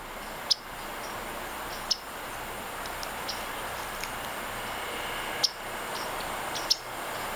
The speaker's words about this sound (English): Tonight we're profiling the yellow-rumped warbler that only winters with us here in the South when it frequently emits this flat chip note heard here.